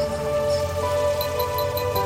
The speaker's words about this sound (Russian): подошел моросящий дождик. Он охлаждал мое лицо